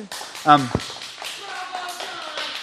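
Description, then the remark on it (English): An audience claps in a steady patter of many hands, with a short, high voiced cheer near the start and voices talking under the applause. “That sounded like an appropriate place to clap.”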